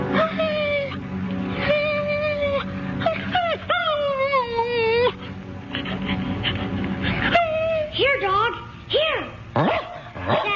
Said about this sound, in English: Dog, jump up on the bed. Good boy, good boy.